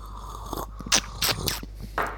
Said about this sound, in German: Du musst ihn unter die Zunge kriegen. Ja. Ich glaube, das ist auch extra lecker, sich das anzuhören, wie wir schlürfen.